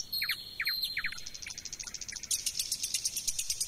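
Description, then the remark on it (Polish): A male nightingale sings alone, clear: quick repeated high notes, a few downward whistles, then a fast rattling trill of evenly spaced pulses. No one speaks. “W tym przypadku śpiewa tylko pan słowik, tak? Rzeczywiście to są słowiki, które są samcami.”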